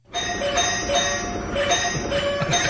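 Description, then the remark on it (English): A doorbell in Montana, repeatedly pecked by a woodpecker, chimes over and over in rapid succession, its bright electronic tones overlapping in a steady, insistent ringing that never pauses, with no voices. “Someone in Montana posted a video after a pesky woodpecker took an interest in their doorbell and wouldn't stop ringing it.”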